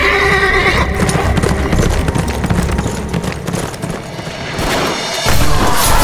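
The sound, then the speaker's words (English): A ridden horse gallops: hooves pound in a fast, steady galloping rhythm, joined by a loud, high whinny early on, with a dense rumbling clatter continuing throughout. “Kip rode after her.”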